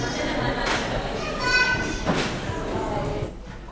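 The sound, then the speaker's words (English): After a prayer, a crowd of children moves off noisily to their groups, feet thumping and scuffing with overlapping chatter and high voices, a busy continuous clatter that eases off near the end. “This is the beautiful sound of elephants in the house.”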